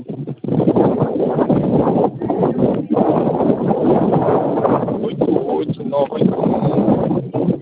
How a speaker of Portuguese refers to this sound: Pera aí que eu não tô conseguindo te escutar. Tá ventando aí? Tô no campo.